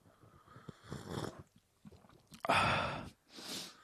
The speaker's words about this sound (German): Der ist mir noch zu heiß. Oh, der schmeckt aber sehr, sehr lecker. Ich kann nur so ein bisschen schlürfen.